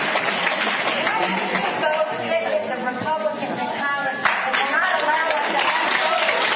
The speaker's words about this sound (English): So here's a woman in pink holding up a book. The audience is applauding to her question.